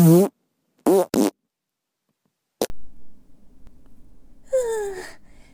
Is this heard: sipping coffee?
no